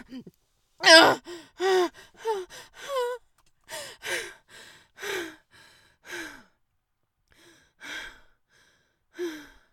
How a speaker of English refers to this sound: Breathing heavily and quivering.